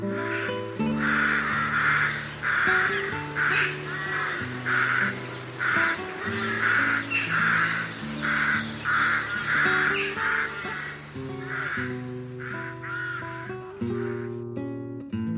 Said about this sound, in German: Das war die Saatkrähe.